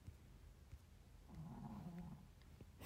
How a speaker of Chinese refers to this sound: 你听到狗打呼噜了，真的？嘿嘿，踢踢、嘟嘟、淘淘，都在我的床底下。听这个呼噜声，应该是淘淘打的。小博美嘛，气管窄，我打算带他去看看的。